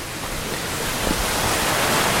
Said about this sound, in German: So, man hört hier jetzt das Geplätscher des Wassers. Wir sind gerade noch im Wald, mitten im Schwarzwald und laufen an einem Bach entlang. Viele große Steine liegen im Weg und das Wasser ist sehr, sehr klar, also frisches Quellwasser.